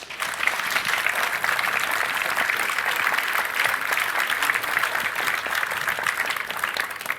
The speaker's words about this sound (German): Bitte einmal Applaus.